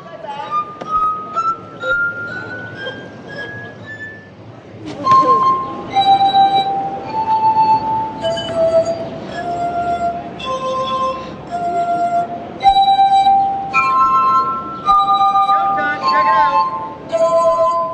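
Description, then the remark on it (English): A ringing glass tone slides steadily upward in pitch as a street performer in Jackson Square fills and tunes water goblets, using a turkey baster to adjust the water, then gives way to a string of clear, sustained glassy notes at different pitches, like a melody played on rubbed rims. “By now, several tourists with plastic cups of beer have stopped to watch this animated man with the white beard and ponytail fill his water goblets.”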